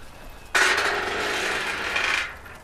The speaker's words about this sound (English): So that was a rusty gate, isn't it?